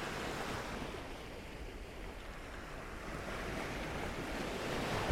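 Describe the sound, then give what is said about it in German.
A recording of ocean surf, found online, washes in a broad, hissing roar, gently swelling and ebbing without a clear rhythm, moderately quiet and continuous throughout with no voices; used as background noise added to a beat. “Aber du merkst schon, es schwillt an, es schwillt ab und das ist wirklich so eine rein zufällige Art von Rauschen, die man einem Beat hinzufügt.”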